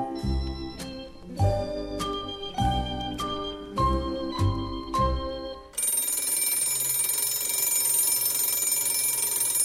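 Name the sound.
bell ringing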